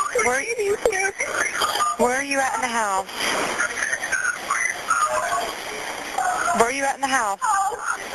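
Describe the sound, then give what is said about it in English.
A steady, shrill house alarm tone keeps sounding in the background for the whole stretch while a man knocks or pounds on the door yelling to turn it off, partly buried under agitated voices talking and shouting over what sounds like a phone line. “He's yelling to turn off the alarm.”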